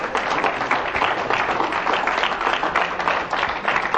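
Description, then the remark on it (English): A crowd claps together in sustained, dense applause lasting about four seconds, steady and fairly loud throughout, with no voices standing out, giving the Lord a hand clap. “Let's give the Lord a hand clap for that.”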